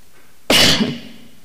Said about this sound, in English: I don't want to cough into the microphone because that would be very loud.